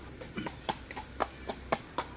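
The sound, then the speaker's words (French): Rapid hoofbeats of a galloping horse ridden by a woman on her way to work, a quick uneven pattern of sharp thuds repeating steadily at moderate volume, with no voices over them. “Voyant l'heure, elle met son cheval au galop.”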